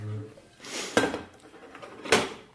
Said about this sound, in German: Ja, gut, das ist meine Küche. Ich nehme mal hier diese Pfanne.